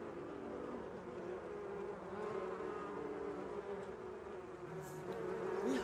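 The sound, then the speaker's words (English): A steady, dense buzzing of many swarming bees, a continuous droning hum that swells slightly louder toward the end, with no voices. “Okay, Ma, the bees are back.”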